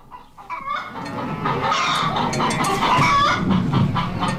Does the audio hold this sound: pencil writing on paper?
no